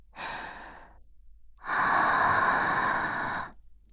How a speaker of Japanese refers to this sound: ちょっとした息遣いでも、あんたの鼓膜にちゃんと響くはずさ。そんなに慌てなくても、少し息をかけてやっただけだろう。